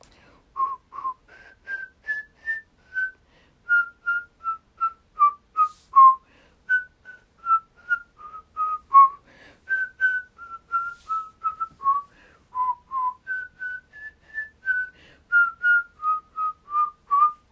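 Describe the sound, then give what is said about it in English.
A person whistles Twinkle Twinkle Little Star alone, steady pitched notes rising and falling in a clear tune for several phrases, with a few wavering, breathy notes along the way. “Ooh, I've whistled so long.”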